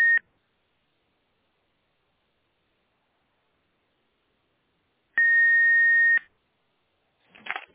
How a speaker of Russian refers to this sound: какие-то гудки идут. Все, наверное, отключу.